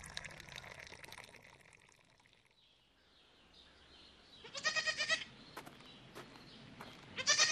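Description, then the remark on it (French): Goats bleat outdoors on a farm, one loud wavering bleat midway and another starting right at the end, over a soft rushing, watery background that fades early on. No one speaks. “ton père a déjà plus de 100 chèvres et aussi des bovins.”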